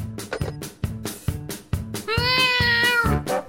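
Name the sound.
cat meowing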